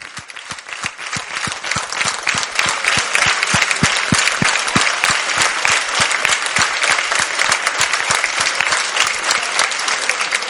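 An audience applauds the women who write down every word the Rav says, steadily for about ten seconds, a dense, sustained wash of many hands clapping with sharp individual claps standing out, loud throughout with no speech over it.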